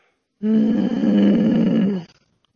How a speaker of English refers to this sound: I can't tell if that's you growling or your dog growling. Both.